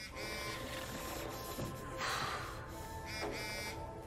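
A phone buzzes steadily for about four seconds, a droning electronic hum with two brief, louder surges partway through and no voices.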